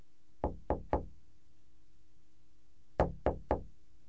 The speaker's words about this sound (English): Situation 20. Mr. Barnes' office. James knocks on Mr. Barnes' door and enters his office.